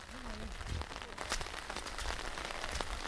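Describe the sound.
Heavy rain pours down steadily outdoors at a small cottage with stalls under roofs, a dense hiss of drops drumming on hard surfaces, with a few sharper splatters and faint voices of people standing in the downpour.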